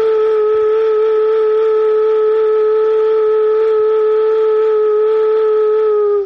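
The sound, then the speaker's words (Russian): A ritual vessel embodying Stribog, one of the main pagan gods of the East Slavs and god of winds and storms, is blown, giving one loud, steady whistling tone with a bright, mid-high pitch that holds unbroken for about six seconds before cutting off. No one speaks. “Ну, если не сам Стрибок, то его материальное воплощение в виде ритуального сосуда.”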